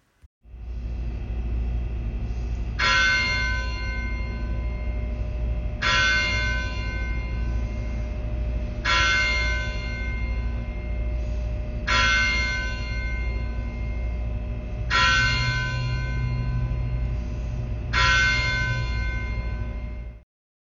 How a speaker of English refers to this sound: This service began at 6 o'clock p.m. after the tolling of the church bell.